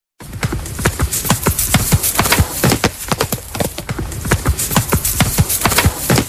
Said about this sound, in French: Ouais, le galop cheval, du cheval. Au galop, le ouais. Cheval, j'ai demandé un cheval au galop.